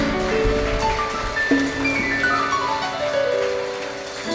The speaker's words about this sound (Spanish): Dale una ofrenda de palmas a Él, dáselo fuerte.